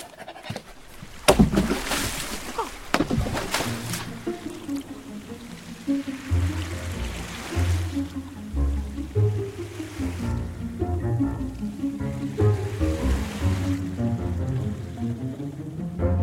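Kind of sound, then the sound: vehicle, boat moving on water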